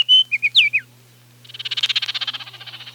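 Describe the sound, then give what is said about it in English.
A few clear, fluting oriole whistles ring out, followed by a rapid, buzzy chatter of about twenty quick pulses, over a faint low hum. “News stories can wait when an oriole sings.”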